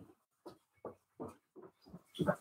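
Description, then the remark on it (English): Pudge, a paralyzed puggle, makes a rapid series of about seven short, soft vocal bursts in a studio with a hard rock floor. The bursts sound like quiet yips or whimpers at a fairly steady rhythm, with the last one louder. No one speaks. “There's a dog in here that cannot be in here.”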